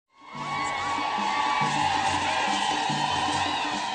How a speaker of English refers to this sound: You're hearing there an ecstatic crowd in Tanzania welcoming President Barack Obama and First Lady Michelle Obama to their country, the final leg of the president's Africa trip